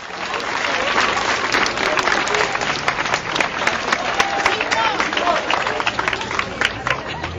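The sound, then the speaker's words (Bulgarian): A crowd of students outside on the sidewalk, gathering for a march, applauds and cheers their school headmistress steadily for several seconds, dense clapping mixed with shouts and voices, loud and sustained throughout. “И приеха с овации и възгласи своята директорка.”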